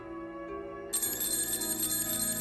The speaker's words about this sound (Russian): Громко зазвонил будильник. От резкого звука Тимофей вздрогнул в своей кровати и сонно простонал.